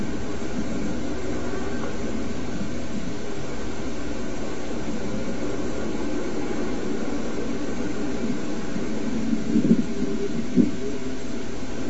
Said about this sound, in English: whereas this end of it acts as a miniature refinery, allowing the engine to run on everything from battery acid and water mixed to crude oil right out of the ground. This is Angola crude, 39.5 gravity.